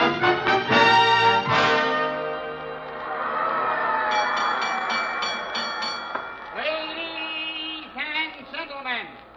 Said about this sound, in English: There's the bell for the fighters. Come on, let's get Vallee into the ring.